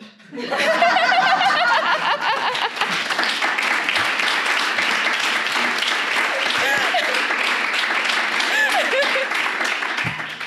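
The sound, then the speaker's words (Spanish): Hands clapping into a microphone, dense, rapid claps running for about ten seconds, loud and steady throughout, mixed with some laughter and chuckling. “estoy aplaudiéndole al micro, pero es que no podía evitarlo.”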